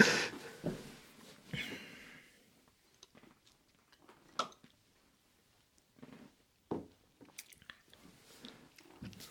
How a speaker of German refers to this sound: Guck mal, er steht jetzt auf. Er steht jetzt auf und muss husten.